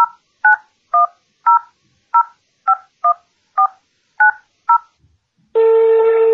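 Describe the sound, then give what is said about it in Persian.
A rapid series of eleven touch-tone dialing beeps, each a short two-pitch tone at a steady rhythm, followed by a sustained steady telephone tone with no voices present. “خواهش میکنم یه شماره تلفنی اعلان کنم که به وسیله اون شماره ما بتونیم تلفن کنیم.”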